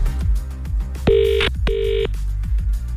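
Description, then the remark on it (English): A telephone rings twice in quick, bright bursts, loud, over a steady rhythmic music bed, as a caller's line comes in during a radio phone-in. No one speaks. “Do we have a ring-a-ring? Yes. There it is.”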